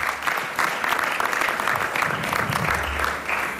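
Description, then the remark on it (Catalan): Steady applause from an audience for those who took part in the elections, a dense wash of many hands clapping at a constant loud level for the whole stretch, with no voices standing out. “En fi, per tots ells un fort aplaudiment per haver participat en aquestes eleccions.”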